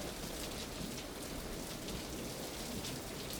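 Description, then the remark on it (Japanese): Heavy rain pounds steadily on asphalt at a flooded roundabout in front of a train station, a dense, unbroken hiss of countless drops with no pauses and no voices. “アスファルトに打ちつけられる粒はもはや雨音というには激しすぎ、まるで砕けたガラスの雨のようだった。”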